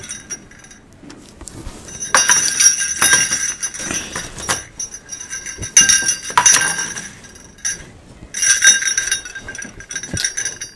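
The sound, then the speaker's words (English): Small Christmas bells for decorating a wreath for the front door jingle in three bright, shimmering bursts with quieter rattling between them, a high metallic chiming that swells and fades with each shake. No one speaks. “These doing Christmas bells.”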